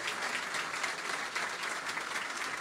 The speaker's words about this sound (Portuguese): Bom, me desculpe aqui a sequência, mas queria cumprimentar aqui, de forma muito especial, a todos os reitores e reitoras, magníficos reitores e reitoras das nossas universidades desse país, pedindo uma salva de palmas para eles.